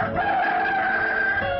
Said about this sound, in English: With the next sunrise, the rooster crows.